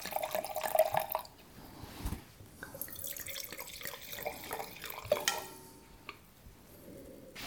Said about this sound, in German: Man sieht so schlecht, wie viel man einschenkt. Man muss immer nach Gehör einschenken.